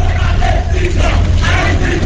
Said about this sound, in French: Aristide, 5 ans, et pourquoi pas 10 ans, crie la foule serrée derrière un cordon policier.